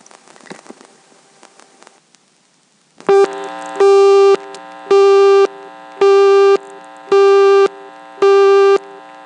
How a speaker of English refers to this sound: That was dialed normally, and of course I only got as far as the sixth digit of the phone number before the busy came on.